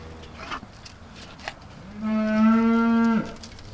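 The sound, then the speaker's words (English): A single beef cow moos loudly, a long harmonic bellow lasting over a second, preceded by a few faint shuffling clicks and soft farmyard noise, during evening feeding on a family farm in northern Indiana. “does his evening chores feeding the cattle.”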